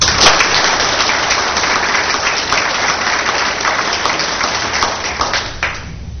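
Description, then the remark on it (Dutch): A crowd breaks into sustained applause, dense overlapping clapping that stays loud and steady for several seconds before tapering slightly at the end. “we zijn heel blij en ik vind het wel een applaus waard.”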